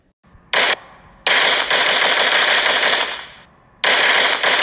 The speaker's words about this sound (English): Another round of gunshots hits closer.